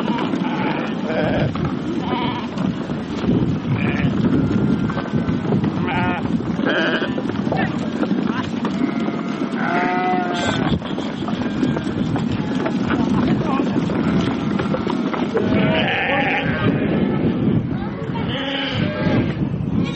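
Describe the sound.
A large flock of sheep bleats continuously and loudly, many overlapping calls rising and falling, with a busy crowd-like clamor and occasional human voices mixed in.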